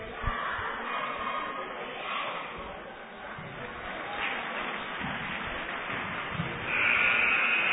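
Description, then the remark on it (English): Cheerleaders chant and a crowd cheers at a basketball game during the first quarter, a steady wash of noise that swells louder near the end, with muffled shouting mixed throughout. “Got a little first quarter activity here by the cheerleaders, doing a nice job.”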